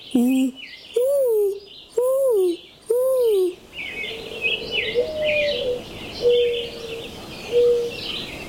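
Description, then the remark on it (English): A child's voice imitates a mourning dove with four loud, rising-then-falling hooting coos, followed by softer, steady cooing notes over a bed of chirping birdsong. “I can imitate a mourning dove.”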